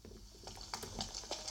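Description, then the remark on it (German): Steady rain hisses quietly without a break in Angelstedt, with scattered brighter drops pattering on top. No voices are heard. “Warum regnet es bei in Angelstedt eigentlich durchgehend?”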